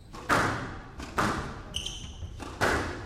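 During a squash semifinal on an all-glass court, a squash ball hit with full force smacks hard into the glass wall three times, each a sharp, ringing crack about a second apart, with a brief high squeak between the second and third hits.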